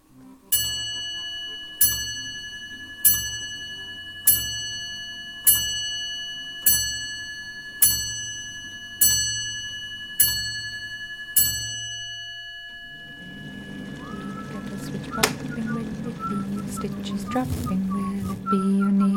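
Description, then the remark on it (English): A handmade clock strikes nine evenly spaced, ringing chimes, each tone decaying before the next, clear. A busier, noisy jumble with faint voices takes over near the end. “And this is his clock, busting its way in above … at the top of the Knitsonic Hit Parade.”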